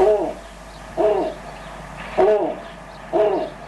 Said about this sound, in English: And since you can't see the snowy owl over the radio, let's take a listen to what the snowy owl sounds like.